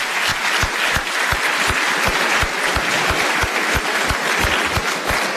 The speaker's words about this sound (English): These gentlemen have done a fine job. You've been a great audience. Let's give them another round of applause and thank them for being here tonight.